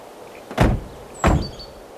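Two solid car door thuds, about half a second apart, as two men get out of a car, fairly loud, with a quiet background and no voices.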